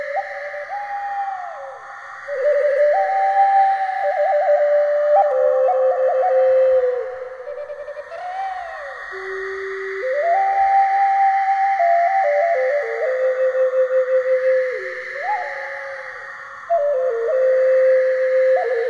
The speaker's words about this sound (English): Those were the sounds of the Aztec wind whistle from ancient Mexico, made from clay,